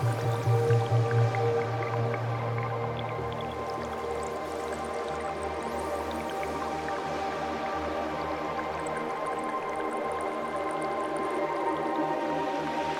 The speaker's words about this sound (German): Du nimmst nun das Plätschern des Wasserfalls wahr und möchtest unbedingt dorthin. Also schwimmst du drauf zu. Siehst, wie das Wasser von oben herab in den See plätschert. Siehst all die glitzernden Wassertropfen.